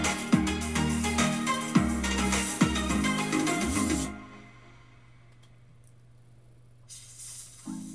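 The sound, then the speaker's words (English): Loud, sustained snake hissing fills the first half, a harsh breathy rasp over low rumbling tones, then cuts out to a quiet hum before a short hiss returns near the end. “At least the snakes are doing their thing.”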